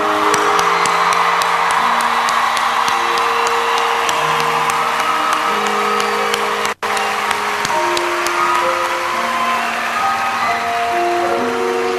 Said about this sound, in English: And I want everyone to give a round of applause. So give it up for them again, please.